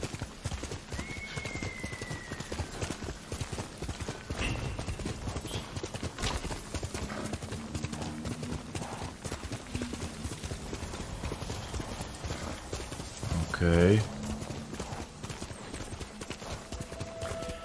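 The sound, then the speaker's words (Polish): Horse hooves clip-clop in a quick, steady rhythm for the whole stretch, with a short loud whinny rising briefly near the end. “Skakuj na konia!”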